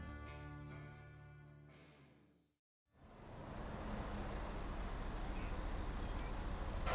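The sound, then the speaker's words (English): A short musical chord fades to a brief silence, then a bus pulls up to a stop, its loud, steady engine rumble and road noise filling the rest, with no talking. “The bus pulled up to my stop, so I got off and began my short walk home.”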